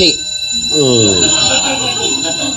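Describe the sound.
A timer bell rings continuously with steady, high, shimmering tones for the whole stretch, while a man's voice talks underneath it.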